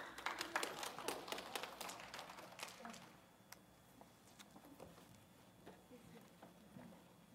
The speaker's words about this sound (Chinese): 好，我们把时间给他们，我们掌声欢迎他们。